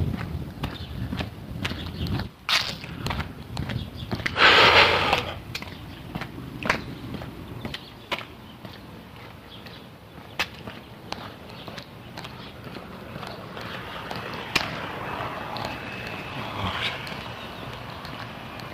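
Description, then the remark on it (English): Repeated short ticks from a metronome set to an alternating left-right beat, sounding over a steady low background rumble, with one brief louder hissing burst early on. “I changed the metronome so that it gives me a left-right beat.”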